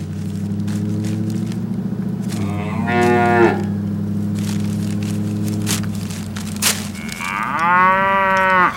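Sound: cow mooing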